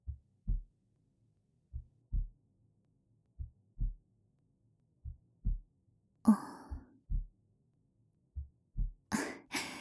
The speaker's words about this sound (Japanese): 聞こえてしまっているのかい？僕の心臓の鼓動。そうだよ、ドキドキしてるんだ。こんな時間に真っ暗な図書室でさ。